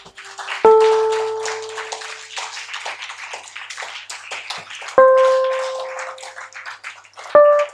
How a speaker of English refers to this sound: Put your hands together for the Lord and stand to your feet. Oh, even your clapping for the Lord is some way. Are you clapping or you are attempting to clap?